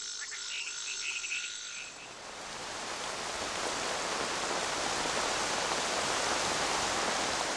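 Phyllomedusa bicolor tree frog calls in a short burst of repeated, high, buzzy notes over the first two seconds, then a steady hiss like heavy rain takes over and swells.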